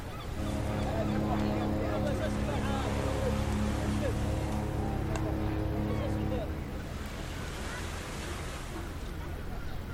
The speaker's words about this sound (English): Listen. Oh, there is sound which is combined by the sea waves. It's really relaxing.